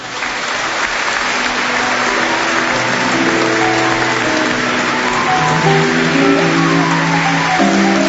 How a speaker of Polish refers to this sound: Wielkie brawa i dziękujemy.